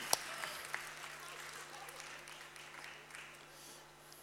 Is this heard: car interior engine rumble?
no